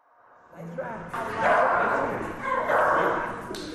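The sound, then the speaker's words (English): Several shelter dogs in the Canine Cellmates jail dogs program at Fulton County Jail bark and yip over one another with echo, a steady loud chorus that builds after a quieter start and keeps going throughout. “For the 6-year running, CCM has been supporting the program that gives inmates a purpose and gives shelter dogs a home.”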